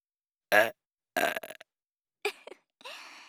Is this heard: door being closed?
no